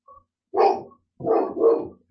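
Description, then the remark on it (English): Dogs barking outside: one bark, a short pause, then two quick barks in a row, loud and clear with no one talking. “Can you hear the dogs?”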